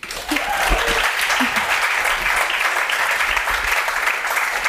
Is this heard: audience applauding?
yes